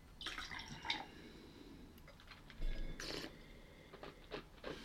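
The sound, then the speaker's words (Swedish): Water is tipped out of a wine glass, making a few short splashing bursts and drips at a modest volume, with no one talking. “Tyvärr så hade vi lite vatten i glaset, skällde ur.”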